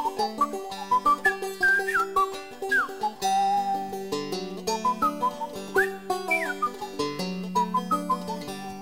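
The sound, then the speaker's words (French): A bright whistled melody with chirpy gliding notes, like a bird's song, plays over a gentle sustained instrumental backing for several seconds, with no talking. “C'est une chanson pour les oiseaux, dit-il. » Et il siffle à son tour.”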